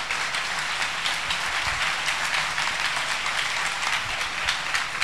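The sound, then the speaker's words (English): An audience claps together to acclaim the Lord in sustained, dense applause, a steady loud wash of many hands with no speech over it, holding level for several seconds. “Acclamons notre Seigneur. Let's clap the Lord.”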